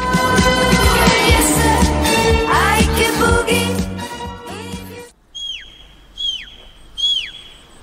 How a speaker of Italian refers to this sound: E questo fischio è da nessun posto al mondo, ne parliamo subito con la regista.